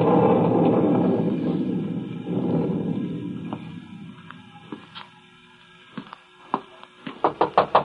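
A low rumble fades into scattered single taps, then a quick run of sharp knocks on a door grows louder at the end. No one speaks.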